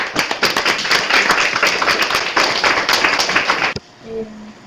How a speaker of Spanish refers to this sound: Y bueno. Pues un aplauso.